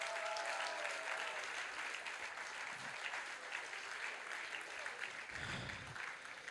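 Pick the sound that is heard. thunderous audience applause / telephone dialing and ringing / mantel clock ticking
thunderous audience applause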